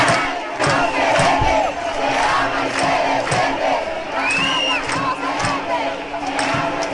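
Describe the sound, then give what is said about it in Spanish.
A dense street crowd in Spain cheers and shouts continuously on 20 April as part of a movement, many voices blending into a loud, steady roar with occasional rising whoops and yells standing out above the din. “Este era el sonido, el ambiente que se respiraba en la calle el pasado 20 de abril.”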